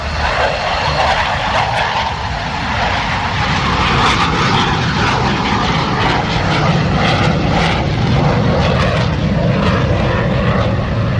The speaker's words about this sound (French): Le bruit assourdissant des avions de chasse dans le ciel balte n'a rien de bien inhabituel ici. Le 7 décembre, les pilotes portugais et canadiens qui assurent la mission de police du ciel de l'OTAN dans la région ont décollé 3 fois.